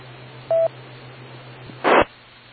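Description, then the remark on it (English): A single short telephone keypad tone beeps as someone dials to make a phone call, over a steady low hum, followed a moment later by a brief burst of harsh noise. No one speaks. “I gotta make a couple of phone calls.”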